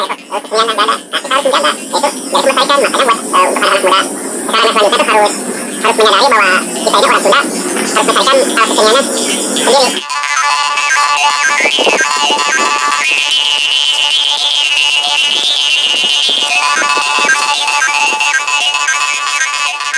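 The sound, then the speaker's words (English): A bamboo karinding, a traditional Sundanese jaw harp from West Java, twangs in a steady, buzzy rhythm, its overtones warbling and shifting; halfway through, the tone turns to a brighter, more sustained drone with shimmering harmonics. “there will be going such a traditional instrument from Western Java called Karining”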